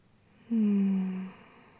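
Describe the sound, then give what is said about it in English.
A single slow, audible exhale, fairly loud, with a low voiced, almost snore-like hum to it, lasting under a second before fading into quiet. “Just feel the rhythm of my breathing.”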